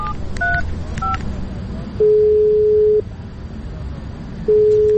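A few quick, bright telephone keypad beeps in a row as the Iranian police 110 line (FATA cyber police) is dialed, followed by a long, steady, lower-pitched ringing tone that stops and then starts again over a faint background hiss.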